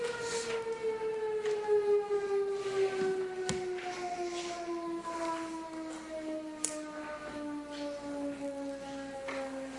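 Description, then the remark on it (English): A loud air horn in Nevada drones with a rich, buzzy harmonic tone, its pitch sliding slowly and steadily downward as it winds down over the whole stretch, with no voices. “Longest wind down air horn in Nevada.”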